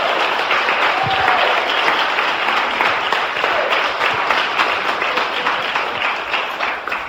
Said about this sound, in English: And let's just do one more last round of applause for everyone. Thank you so much for your time.